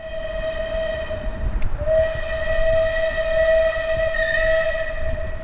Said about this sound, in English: I see a steam train.